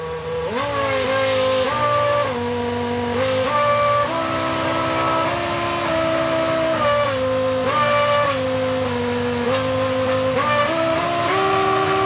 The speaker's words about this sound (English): And also kind of a party trick that some of the Formula One teams were doing for a while was programming in songs into the engine. So the engine would change RPM and hold it there just like you would do with a musical note.